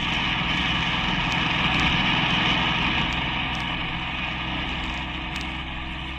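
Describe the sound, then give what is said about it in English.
A car engine drones steadily while driving along Broadway, a loud, continuous low rumble with road and wind hiss, holding constant throughout without speech. “I dislike being repetitious, girl, but the car is still following us.”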